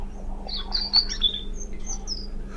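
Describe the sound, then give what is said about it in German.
A European robin sings a short, thin warbling phrase of high, liquid trills and whistles, clear, over a faint steady low hum. “Das war das Rotkehlchen.”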